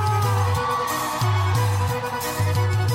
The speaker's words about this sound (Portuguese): Diretamente de Fortaleza, no meu Ceará. Porra, é pop. Cadê o gritinho do meu Ceará?